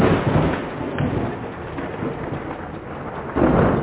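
Steady rain hisses throughout while a low, rolling rumble of thunder swells underneath, growing louder near the end. No voices are heard.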